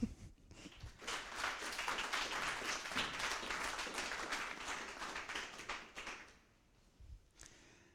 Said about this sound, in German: Gut, also großen Applaus für unsere Regie zum Schneiden.